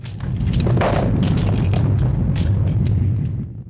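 Heavy stone columns and a block of stone collapse and topple as a volcano tremor shakes a room, a deep, loud, continuous rumbling roar lasting several seconds, with scattered sharp cracks and grinding debris over the low boom, no voices.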